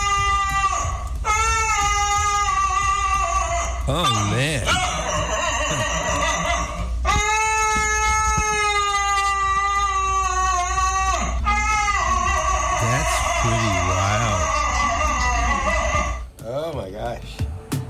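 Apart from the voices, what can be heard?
dog howling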